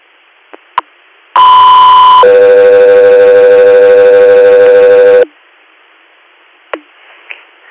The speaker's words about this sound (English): Echo 3 Air, stand by for tone.